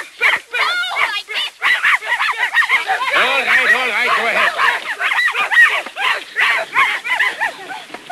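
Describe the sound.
A very young boy, playing a game of pretending to be a dog, yaps out a rapid string of loud barks that repeat almost without pause for several seconds.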